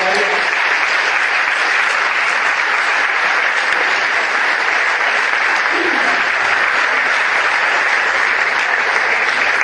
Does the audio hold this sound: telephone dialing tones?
no